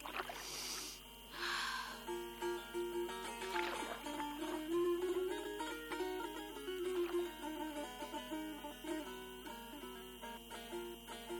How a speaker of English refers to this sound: Now, heading to the Ashurada Island. The sound of sea waves and the noise oars make with water is really pleasant. How calm it is!